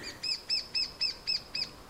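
A lesser spotted woodpecker gives a series of six thin, high, evenly spaced piping notes in a steady rhythm, clear against a quiet background with no talking.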